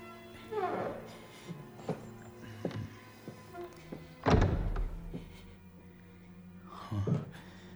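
A heavy apartment front door, unlocked with a lockpick, creaks open in drawn-out, groaning squeals, with scattered knocks and a loud, deep thud in the middle, then another creaking groan near the end.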